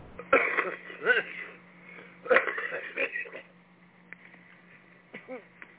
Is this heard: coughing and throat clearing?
yes